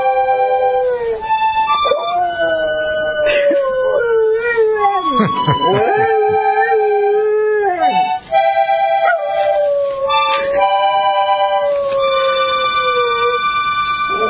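A dog named Jesse howls in long, wavering, rising and falling notes, singing along to steady accordion music playing a romantic Italian ballad, the howl loud, weaving over the sustained chords for the whole stretch.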